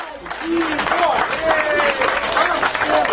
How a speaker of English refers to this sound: Charles, it sounds like they're all cheering for a guilty sentence. Is that what's going on here? You know, I think mainly it's a feeling of relief among her supporters